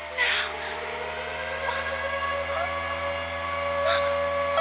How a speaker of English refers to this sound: Emergency whistle.